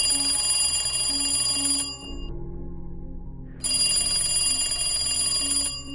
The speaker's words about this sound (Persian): صدای اون تلفن قدیمی بود.